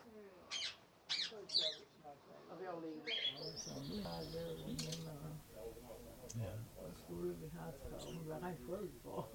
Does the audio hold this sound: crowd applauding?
no